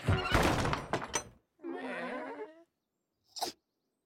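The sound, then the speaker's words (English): A heavy barn door slams shut with a loud wooden thunk and rattle, followed by a short bleating animal call and then a single faint click. “He slams the barn door.”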